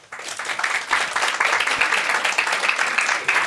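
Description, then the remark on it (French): An audience in a hall breaks into sustained applause, clapping to show who among them works on scary amusement attractions; many hands clapping in a dense, steady crackle that holds at an even level for a few seconds with no one speaking. “Est-ce que, par applaudissement, qui fait des attractions dans la salle ?”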